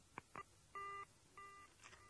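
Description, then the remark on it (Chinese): Two quick clicks of a phone hanging up, then a pair of steady, evenly spaced busy-signal beeps on the line, quiet, with no one talking. “电话的那边在片刻的宁静之后，又是挂断电话的声音和无尽的盲音。”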